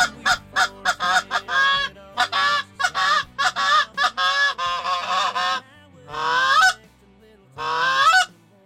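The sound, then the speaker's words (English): A flock of geese honks loudly and repeatedly, a rapid stream of harsh, nasal calls that overlap in bursts, followed by two longer, rising honking squawks with short pauses between. “And the last thing I wanted to do was have geese come closer to the airplane”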